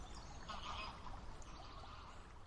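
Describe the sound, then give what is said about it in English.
Geese honk continuously in a noisy chorus, overlapping calls blending into a dense, moderately loud flock sound with a steady low rumble underneath and no voices. “Turn those geese down.”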